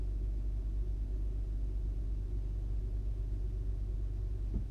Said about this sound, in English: It's like a traffic jam in this alley. I can't even get out of the garage.